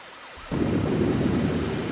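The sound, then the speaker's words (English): A fire truck siren wails with sweeping rises and falls in pitch as fire trucks leave, then a loud, steady roar of rumbling engine noise swells in and buries it. No one speaks. “All right, the fire trucks are leaving. They're on their way.”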